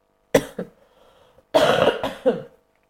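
coughing

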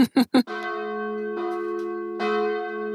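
wedding church bells ringing

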